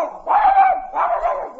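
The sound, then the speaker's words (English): A dog named Gainesy barks twice on command in a Gaines dog food advertisement, two loud, drawn-out, mid-pitched woofs separated by a short pause, with no talking over them. “So, Gainesy, come on and speak. Speak for Gaines.”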